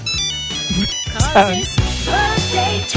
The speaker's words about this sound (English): Somebody's mad at us because they think they're still using a Nokia phone and they think it rang.